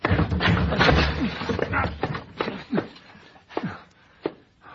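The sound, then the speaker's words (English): Heavy thuds and cracks as a door is rammed by a shoulder to break it down, a series of uneven blows with a splintering crash, loud amid scuffling and grunting. “Blasted door. Come on, we'll break it down.”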